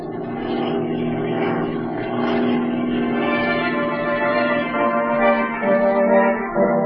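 A propeller plane's engine drones loudly and steadily as it lands on a lake and taxis, its buzzing tone shifting slightly lower near the end as it throttles back. No one speaks.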